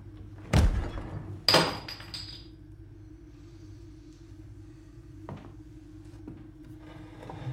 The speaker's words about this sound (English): He closes the fridge door and lobs the bottle cap towards a trash can.